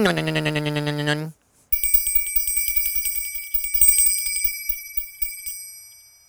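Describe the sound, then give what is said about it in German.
After a brief tonal, voice-like sound, a small bell rings steadily for several seconds, rapid tinkling strikes over a bright sustained shimmer, fading toward the end. “Die Glockenblume bimmelt.”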